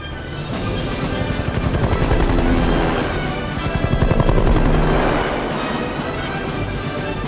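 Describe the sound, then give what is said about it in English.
Heavy rotor blades thump in a fast, steady rhythm as military helicopters swoop in low over a beach where landing craft roll up and soldiers step onto the sand, the roar swelling and fading with a rumbling, churning wash of noise and no voices. “Military landing crafts roll up on the beach, and a battalion of soldiers step out onto the sand as helicopters swoop in from the skies.”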